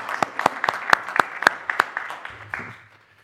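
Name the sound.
audience applauding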